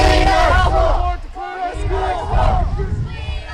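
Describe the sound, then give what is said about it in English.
About 50 students from Centennial Secondary School in the Quinte region, who walked out of class, shout and chant loudly together while standing in the rain waving signs at traffic to support their janitors; overlapping yells rise and fall in bursts, a brief dip in the middle before the shouting swells again. “About 50 students at Centennial Secondary School walked out of class this afternoon and stood in the rain waving signs at traffic.”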